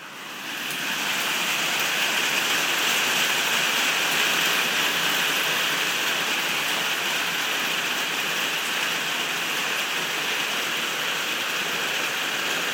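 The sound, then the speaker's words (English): Very heavy rain pours down outside in the UK in a dense, steady roar, loud and continuous for the whole stretch after a brief quieter start, with no voices over it. “So, that's, I think, possibly the loudest rain I've ever heard in the UK.”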